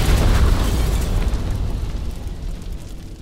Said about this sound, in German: Als sie fast am Ausgang angekommen ist, wirft sie zufällig einen Blick zurück auf den Abfertigungsschalter. Der schießt in diesem Augenblick in einem orangefarbenen Feuerball durchs Dach des Flughafens.